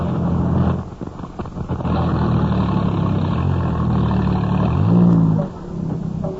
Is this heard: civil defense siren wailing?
no